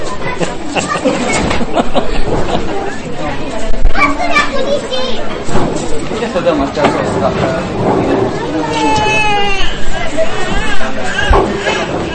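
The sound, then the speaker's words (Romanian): Children chatter and play at a conference, their overlapping high voices and shrieks forming a continuous, lively babble that fills the whole stretch at a steady, fairly loud level. “Am venit și copii la conferință.”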